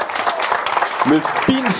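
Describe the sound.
Steady applause from a sizable audience fills the whole stretch, dense and close, with a voice briefly calling out over the clapping near the end.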